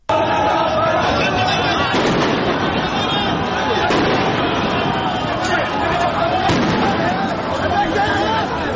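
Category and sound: crowd, gunfire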